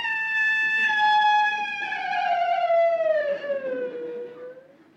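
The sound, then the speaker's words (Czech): A single long wolf howl in a city holds a steady, clear tone for several seconds, then slowly slides downward in pitch and tapers off. It is fairly loud and stands alone with no talking. “To byl vlk, co? Ve městě vlk.”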